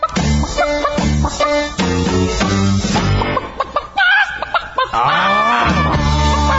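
Upbeat novelty song with chicken clucking woven through it, repeated bursts of squawky, clucking vocal sounds riding over a steady, bouncy backing track, loud and up front.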